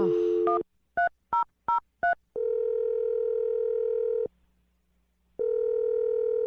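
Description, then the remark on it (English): A short burst of dial tone, then four quick, evenly spaced keypad beeps as a phone number is punched in, followed by two long ringing tones with a pause between them. “Let's dial the phone number.”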